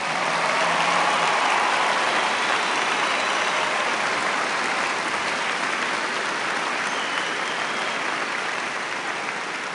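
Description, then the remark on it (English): Sustained audience applause at a graduation ceremony, a tribute to the moms and dads present, fills the whole stretch, a dense, steady wash of many hands clapping at an even loudness, with no voices standing out above it. “And so as a tribute, I think we should have a round of applause for all the moms and dads here today as well, too.”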